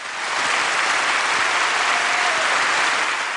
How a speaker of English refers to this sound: And the applause went up.